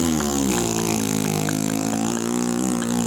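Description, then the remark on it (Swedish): A voice imitates a long, loud fart with a sustained buzzing, sputtering rasp that holds steady for about three seconds, with no talking. “Så har jag bara en så här en mega prutt bara.”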